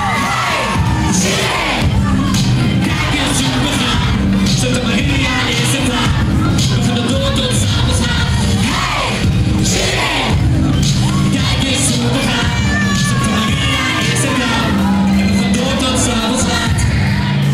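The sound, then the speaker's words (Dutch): A big crowd of students cheers and shouts nonstop at a party in a school hall, a loud dense roar with scattered whoops, sharp bangs of explosions and brief horn toots breaking through amid bells and confetti. “Overal leerlingen, overal is wat te zien. Toeters, bellen, confetti, explosies.”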